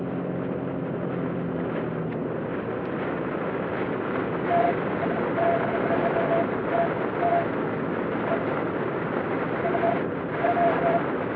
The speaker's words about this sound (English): Whistles a lot. Usually the speed doesn't do it, but it's this 50 mile an hour wind outside that's hitting it funny.